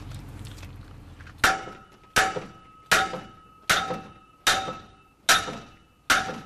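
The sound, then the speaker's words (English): Seven sharp, ringing metallic hammer blows strike at a steady rhythm, each clang leaving a brief tonal ring as a metal shaft is driven into a tube while a broken combine harvester is being repaired, loud after a moment of low rumble. “The problem is they always like to fix things with a hammer, so they have knocked the shaft into this tube here, and now they've got to try and get it out.”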